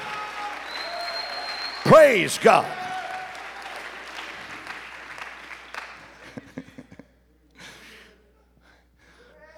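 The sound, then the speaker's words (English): A church audience claps for several seconds amid voices calling out, with a loud shout rising over the crowd before the clapping thins into scattered claps and fades. “If you're glad for that, clap your hands.”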